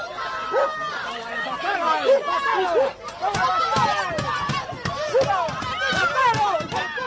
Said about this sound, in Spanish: Morate ha salido en un furgón y más de medio centenar de personas, entre los que se encontraban familiares y amigos de Laura y Marina, le han gritado asesino. Incluso han golpeado el vehículo.